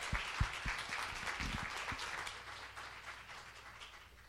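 A crowd applauds steadily, dense overlapping claps with a few sharp louder hits at the start, then tapering off gradually as the ovation winds down.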